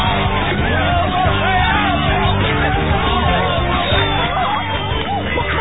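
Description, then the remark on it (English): A crowd of voices yells and shouts at once aboard the sinking boat Mary Lou, holed when something crashed down on it. It is a dense, continuous clamor of overlapping cries that stays loud for the full stretch with no pauses. “And because it was sinking, well, what do you think? Everyone started to yell.”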